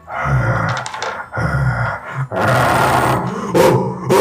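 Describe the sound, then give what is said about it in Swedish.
A dog snarls and growls loudly in several harsh bursts, with rough, roaring barks breaking through. The sounds come in quick succession with no talking. “Börjat skälla.”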